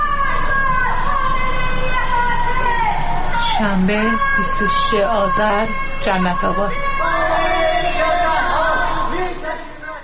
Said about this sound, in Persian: در حالی که ساکنان شهرک‌های چیتگر و سرو آزاد تهران شامگاه شنبه تجمع اعتراضی برگزار کردند، از خانه‌ها و مجتمع‌های مسکونی در منطقه‌های جنت‌آباد و بلوار مرزداران صدای شعارهای ضد حکومتی به گوش می‌رسید.